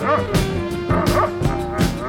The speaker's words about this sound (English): And they looking over here barking too, and he's looking at me too, honey. We call him that big black dog. The big, big black dog.